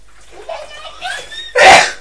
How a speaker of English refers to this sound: Oh, Mummy's sneezing. Bless me.